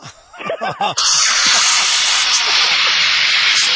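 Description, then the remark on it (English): An automatic toilet air freshener, which senses when a person gets up after flushing, sprays up into the air with a loud, steady hiss lasting nearly three seconds, right after a few brief voiced sounds at the start. “It sprays up into the air.”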